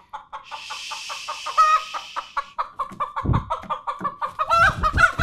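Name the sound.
bird calling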